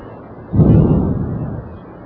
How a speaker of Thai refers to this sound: จะปฏิบัติด้วยกันก่อนนะคะหายใจยาวแรง